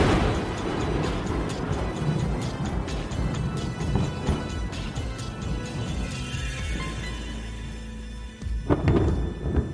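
A loud, rumbling thunder crash rolls on for several seconds with dense low-end roar and scattered crackling, then a final sharp crack booms near the end.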